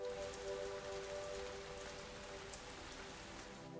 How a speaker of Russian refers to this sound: Полил мелкий моросящий дождь.